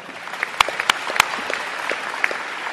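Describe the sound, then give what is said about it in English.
An audience applauds steadily, a dense wash of many hands clapping with a few sharper, louder claps standing out, sustained at an even level throughout, as Senator Mike Ranzenhofer is acknowledged among the elected officials present. “Senator, you can hold the applause.”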